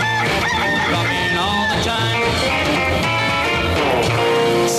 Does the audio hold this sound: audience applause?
no